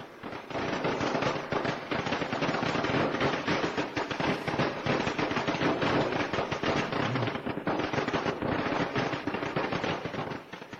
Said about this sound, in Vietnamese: Ngày Tết có rất là nhiều những cái phong tục đẹp. Vừa rồi đó là một trong những phong tục đốt pháo của người Việt Nam của chúng ta trong cái ngày Tết.